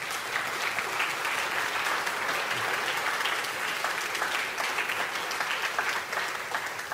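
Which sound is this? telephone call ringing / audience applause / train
audience applause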